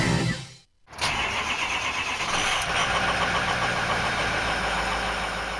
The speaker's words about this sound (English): To paraphrase Robert Duvall in Apocalypse Now, I love the sound of a diesel engine in the morning. Could be a pickup or a tractor or an 18-wheeler, but I love the sound because it sounds like adventure.